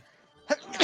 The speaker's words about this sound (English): Bless you!